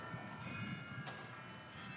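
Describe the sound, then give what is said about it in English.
A bell rings the Westminster chimes in sustained, overlapping metallic tones that hang steadily in the air, with no one speaking. “Oh, I thought that was our bell.”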